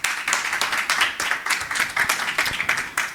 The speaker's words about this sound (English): A warm round of applause to our neighbors from Luxembourg. Thank you.